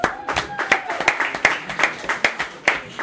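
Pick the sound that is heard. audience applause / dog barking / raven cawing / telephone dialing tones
audience applause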